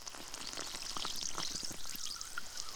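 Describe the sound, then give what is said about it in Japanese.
Steady crackling fizz of carbonated soda used for a carbonated ear-cleaning, dense tiny bubble pops hissing continuously with scattered brighter snaps, no voices present. “この炭酸を使って、耳かきしてあげる。”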